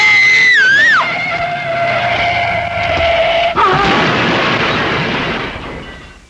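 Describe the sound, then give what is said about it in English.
A loud, sustained car tire screech slides downward and holds for a few seconds as the brakes fail, then cuts into a heavy crunching crash as the car hits a tree, rumbling and fading, alone with no voices. “It was a tree we hit. Only a tree”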